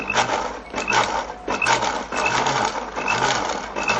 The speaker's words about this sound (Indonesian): Dan kita tuang secukupnya. Barulah kemudian kita blender, hancurkan dulu.